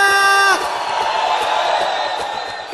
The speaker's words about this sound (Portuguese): Cadê o grito da rapaziada?